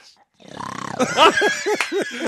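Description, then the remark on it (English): A tiger's roar swells loud, breaking into a run of four or five rough, rasping growl pulses that rise and fall in quick succession. “Maybe the tiger once more.”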